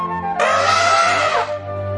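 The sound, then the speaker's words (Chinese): An elephant at a zoo trumpets once, a loud, bright, brassy blast lasting about a second with a rich, buzzing tone and a slight downward bend at the end, over a low steady hum. “大家快看，这里有一只大象。”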